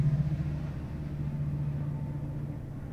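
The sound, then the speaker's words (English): An outbound train rolls past with a steady, low rumble and a sustained droning hum underneath, holding a fairly even loudness for the whole few seconds with no voices. “There goes a train.”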